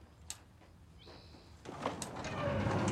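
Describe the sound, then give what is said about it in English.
A sliding door rolls shut with a thin, high squeak as it glides and is latched, followed by a couple of sharp clicks and a rising, rumbling rustle. The sounds are fairly quiet, and no one speaks. “She slides the door closed and latches it.”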